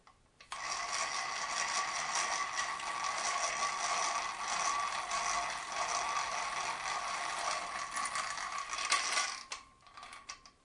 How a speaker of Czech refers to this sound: Ano, tohle je obyčejná ruční vrtačka.